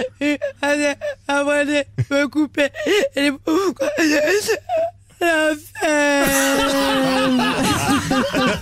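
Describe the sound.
A woman on the Chéri FM morning radio show Le Réveil Chéri imitates a crying child: choppy, whimpering sobs with a wavering pitch, building into a long, loud wail near the end.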